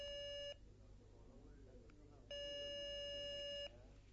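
A telephone rings on the line: two steady electronic ringback tones, a brief one at the start and a longer one after a pause of under two seconds, over faint background noise.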